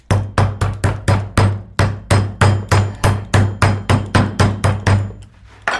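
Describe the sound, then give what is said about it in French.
A meat tenderizer mallet pounds meat in a steady run of about fourteen loud thuds, each with a dull low thump and a brief decay, evenly paced with no talking. “Vous avez attendri la viande à grands coups de marteau.”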